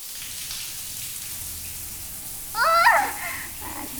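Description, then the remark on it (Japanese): Steady hissing spray of water rinsing shampoo lather out of short hair, constant throughout, with a brief high vocal sound rising over it near the end as lather gets in the eyes. “ほな流すで。”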